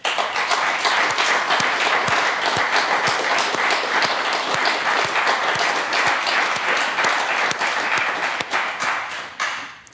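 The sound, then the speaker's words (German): A crowd applauds the many helpers at a festive-day service, steadily for about ten seconds, a dense wash of many hands clapping at once, loud and sustained before tapering off slightly at the end. “Vielen herzlichen Dank und für all die vielen Helferinnen und Helfer möchte ich jetzt auch noch mal um Ihren Applaus bitten.”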